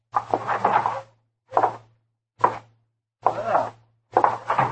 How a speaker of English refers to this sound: All right, that's it. Now open the door and go right on in.